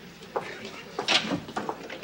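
door being opened

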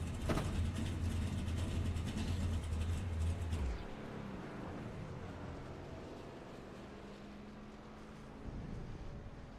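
truck engine idling

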